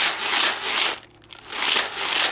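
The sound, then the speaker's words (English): A big jar of popcorn kernels shaken in two long, dense bursts of hissy rattling, separated by a brief pause. No one speaks. “Big jar of popcorn.”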